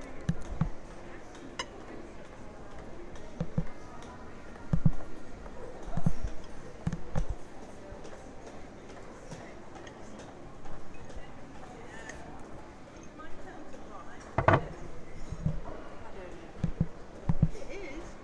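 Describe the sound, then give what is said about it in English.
Hail falling, recorded on an iPhone, heard as scattered, irregular sharp taps and thuds striking a hard surface over a constant hissing wash of noise, with a few louder knocks standing out. “Ah, okay, I think I'll be allowed to stop it now, so I hope you could hear the hail.”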